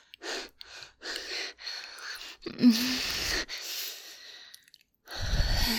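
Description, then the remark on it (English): Heavy, rapid panting: a run of quick breathy huffs, then a deeper gasping breath, a brief pause and another strong exhale. No talking. “At least until the panting stops.”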